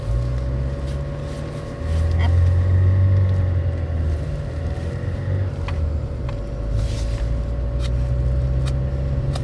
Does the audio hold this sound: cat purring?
no